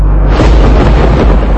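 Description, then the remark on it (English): A deep, rumbling roll of thunder in a movie trailer, loud and sustained with heavy low-end booming and no voices over it. “That's thunder.”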